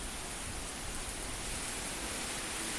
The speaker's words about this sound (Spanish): Pues lluvia que ya se nos venía avisando, pero nos ha pillado aún así por sorpresa